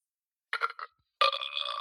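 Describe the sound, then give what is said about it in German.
A burp sound effect: a short, choppy burst, a brief pause, then a longer, steady, buzzy belch with a bright, rasping tone. No one talks. “Wir können jetzt auf Kommando rübsen.”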